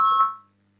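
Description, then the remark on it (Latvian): A single short voting signal bell rings out in Latvia's parliament, the Saeima, calling a vote on a legal bureau proposal, a bright electronic tone that sounds clearly for a moment and then fades quickly into a quiet hum, with no talking. “Lūdzu zvanu, balsosim par ceturto juridiskā biroja priekšlikumu.”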